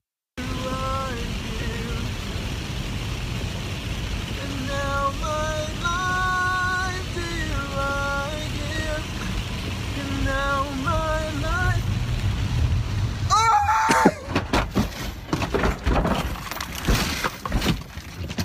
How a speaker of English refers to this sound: Dude, for the listeners, this guy's singing in his car, obviously. It's obviously in the rain. Can we watch it again? And he just rolls the car.